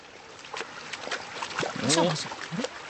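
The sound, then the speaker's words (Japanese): Feet slosh through ankle-deep water, about 18°C, at a disaster-prevention facility on apartment grounds, in a few irregular splashy steps with soft swishing between them, while a person's voice murmurs over the middle of the wading. “水の音、防災用の施設です。”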